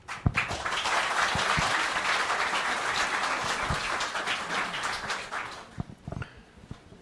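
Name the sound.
audience applause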